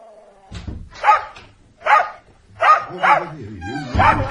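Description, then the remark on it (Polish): A dog barks repeatedly at close range, five or six sharp, loud barks in an uneven rhythm, with a low rumbling background underneath. “Jakie groźne psisko.”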